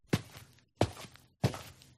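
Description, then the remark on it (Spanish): Three footsteps from a person walking, each a firm, thudding heel strike with a short scuffing tail, landing at an even, unhurried pace with no voices. “¿Los escuchas? Son los pasos de una persona.”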